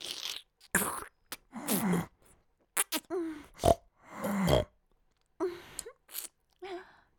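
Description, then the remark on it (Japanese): A woman's voice imitates a pig with a rapid string of snorting grunts and nasal oinks, fairly loud, broken by short pauses over about seven seconds. “どうですか？豚さんに似てますか？”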